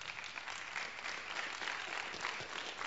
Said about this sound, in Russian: Если вы что-то получили сегодня, дайте Богу хвалу и славу. Жиденькие, жиденькие аплодисменты.